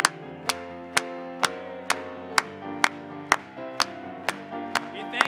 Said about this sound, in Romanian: Să aplaudăm lui!